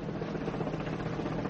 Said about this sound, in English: Hurry, look! Helicopters! Three bloody choppers! They've come to lift Nelson, Mr. Coe! Look! They're lowering a cage to snatch him!